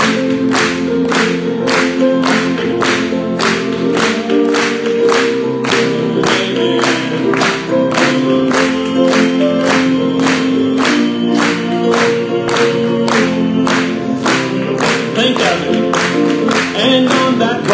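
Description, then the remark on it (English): An audience claps along in unison, sharp steady beats about twice per second, over sustained singing of the hymn "When the Roll Is Called Up Yonder" and instrumental music that carries on throughout. “Let's clap it together.”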